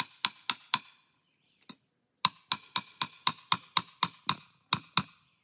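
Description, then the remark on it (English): Sharp hammer blows drive a trap at an angle into hard ground: four quick strikes, a pause with one lone tap, then a steady run of about ten more, each with a brief metallic ring. “Now this ground's pretty hard. So what we're going to do is we're going to go ahead and hammer this trap because it needs to be setting up.”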